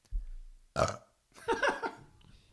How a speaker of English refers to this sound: Excuse me while I burp.